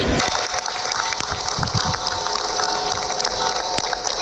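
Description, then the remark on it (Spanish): A crowd applauds steadily in the afternoon in front of Dolores Town Hall, at a gathering to condemn the murder of a local woman and her son. Dense overlapping clapping forms a continuous crackling wash for the whole stretch, holding an even loudness without pauses. “Son los aplausos esta tarde frente al Ayuntamiento de Dolores, concentración para condenar el asesinato de su vecina y de su hijo.”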